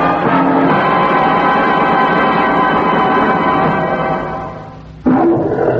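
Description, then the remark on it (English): A lion lets out a long, loud, rumbling roar that slowly fades, followed by the sharp start of a second roar near the end. There is no talking. “That's Jungle Talk from one of the kings of the jungle. He's got a healthy roar”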